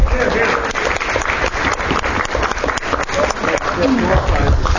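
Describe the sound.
An audience breaks into loud, steady applause for two schools, a dense crackle of many hands clapping that holds for about five seconds, with a murmur of crowd voices mixed underneath.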